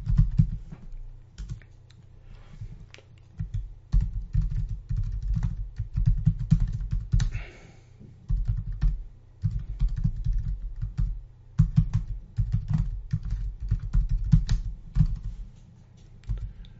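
Steady typing on a computer keyboard into a web-based text editor, with rapid irregular key clicks in bursts separated by brief pauses, and no voices.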